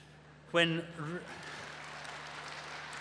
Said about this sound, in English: I see that was women who are clapping.